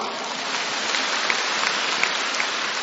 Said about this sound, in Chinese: 鼓掌。